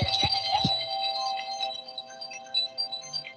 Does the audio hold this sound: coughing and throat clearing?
no